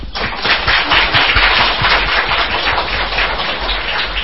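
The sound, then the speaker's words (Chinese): A crowd applauds steadily for a hymn performed by the Fuqing church, many hands clapping in a dense, crackling wash of sound that stays loud and even throughout, with no voices on top. “再次啊、掌声福清教会带来美好的诗歌。”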